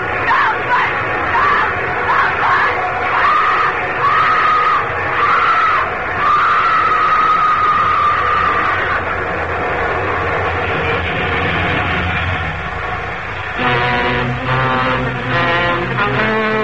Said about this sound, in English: Yeah, there's the big baby now. A nice, long train. Long and loud.